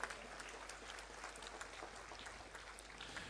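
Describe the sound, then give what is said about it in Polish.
Steady applause at Jasna Góra for representatives of schools from Vilnius and Grodno, a dense crackle of many hands clapping at a fairly even level throughout, with no voices heard over it. “Gorące brawa dla nich.”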